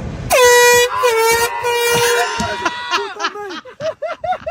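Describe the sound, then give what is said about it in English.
A semi truck's air horn blares in one loud, sustained, brassy blast lasting a couple of seconds, then cuts off as a run of short, rhythmic bursts of laughter follows. “There's the truck.”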